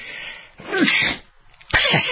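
sneeze

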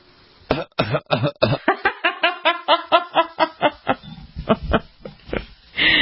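coughing

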